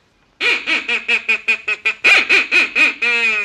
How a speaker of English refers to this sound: I got all kinds of duck calls here, Teeny. Like this one that'll call in mallards from as far as half a mile away.